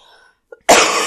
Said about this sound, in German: Aber ja, mein Gott, mein Husten, ich muss mich entschuldigen.